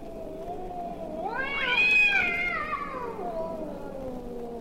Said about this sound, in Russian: Звучит знаменитый кошачий концерт. Такие концерты происходят на крышах домов по ночам. В марте кошкам они очень нравятся. Ну, чего нельзя сказать о людях, которые живут в этих домах. Концерты кончаются отчаянной потасовкой между певцами.